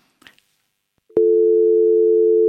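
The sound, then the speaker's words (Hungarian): A faint rustle, then a loud, steady telephone dial tone cuts in and holds unbroken to the end, a continuous hum on an open line with no voices. “csak búgás van.”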